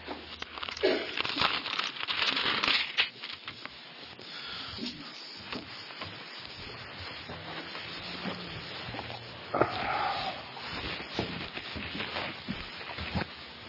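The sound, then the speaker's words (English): Tissue-thin Bible pages being turned and shuffled during Bible study, a steady crinkling rustle with louder flurries near the start and around the middle, no voices. “Have you discovered when you're studying your Bible, I mean, with the tissue paper thin, really ought to discover sort quick instead of licking bacteria off your fingers?”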